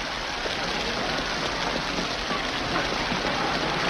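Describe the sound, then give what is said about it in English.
Heavy rain pours down outside a cab in a steady, dense hiss, with a fine crackling patter of drops running throughout and no voices. “He runs through the pouring rain as Mary washes him through the rear window, looking worried.”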